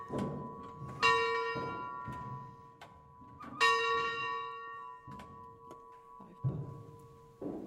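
A church bell dating from 1681 and listed as a historic monument, rung by hand by a woman, strikes twice, each clang ringing out with long shimmering overtones that hum and fade slowly, with faint thumps and creaks of the mechanism between strikes.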